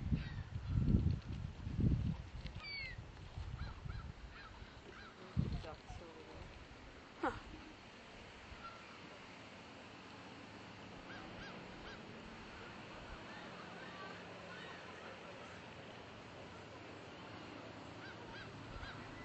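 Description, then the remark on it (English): Honking calls of a swan or goose carry from across water to the right, a few loud bursts early on and then scattered fainter calls over a steady outdoor hum, with occasional voices. “What's calling over there to the right across the, is that a swan or a goose?”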